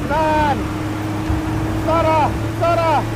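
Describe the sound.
A steady, loud engine roar of a car and two military Toyota pickup trucks with mounted machine guns driving fast fills the whole stretch, with three short, tonal voice-like calls rising above the rumble.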